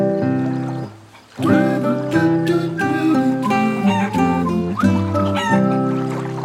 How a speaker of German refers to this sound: Alle meine Hühner scharren in dem Stroh, scharren in dem Stroh.